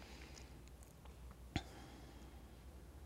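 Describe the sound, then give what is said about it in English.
A single soft swallow by a person, a brief wet gulp that comes as a vagal response during an eye-movement exercise, midway through an otherwise hushed, still stretch with faint room noise and no talking. “So mine came as a swallow today.”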